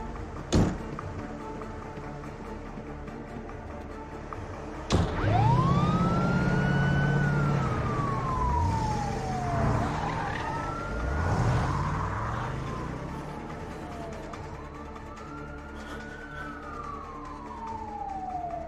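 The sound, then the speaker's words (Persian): A wailing ambulance siren rises and falls in long sweeping tones while the ambulance's engine rumbles and it pulls away in a hurry, loud, with no one talking. “اون آمبولانس از کجا آمد؟”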